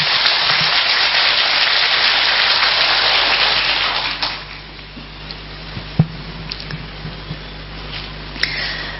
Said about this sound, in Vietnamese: Nếu các anh chị thấy rằng là điều này đó là cái mà tôi đã làm, hoặc nếu chưa làm là bây giờ tôi sẽ đang làm, hoặc là sẽ làm trong tương lai, thì các anh chị hãy dâng cao tràng vỗ tay thật lớn để thể hiện sự quyết tâm.